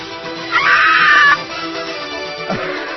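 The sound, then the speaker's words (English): A screaming goat sound effect: one loud, shrill, strained bleat lasting under a second, then a quieter, shorter cry a moment later over a low background hum. “Put a screaming goat in everything, can't you?”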